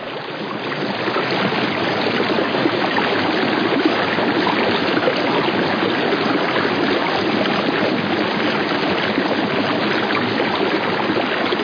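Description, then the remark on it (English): Steady, full-bodied rush of water pouring through a rocky channel at Blue Ledge, a small gorge in the upper Hudson north of North River, a dense continuous roar with a rolling low rumble, loud, no voices or other sounds. “Blue Ledge, I think, which is a gorge, not a very large gorge, but with the most beautiful rolling bass sounds, at least when I was there, in the upper Hudson, north of North River.”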